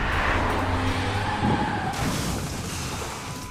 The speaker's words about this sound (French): Premier virage, deuxième virage, troisième virage, et le quatrième, il ne le prendra pas. Il est à 130, là où il aurait dû être à 90. Rodolphe perd le contrôle de sa voiture, qui fait plusieurs tonneaux.